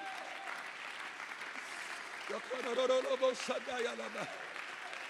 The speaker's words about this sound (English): Oh, clap your hands just a little bit louder in the house.